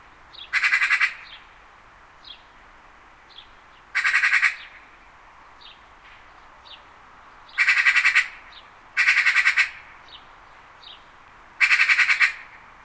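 Harsh corvid squawks ring out in five loud bursts at irregular intervals, with softer short calls scattered between them against a quiet background. No one speaks.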